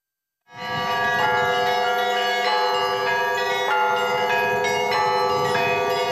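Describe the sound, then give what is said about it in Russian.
Church bells ring loudly and continuously in the town of Yugorsk, Siberia, for the town's birthday celebration on a day without warmth or sun: several bells of different pitches struck in an overlapping, steady peal that sustains with a rich ringing tone. No voices are heard. “Колокольный звон уже для Югорска это становится определенной визитной карточкой.”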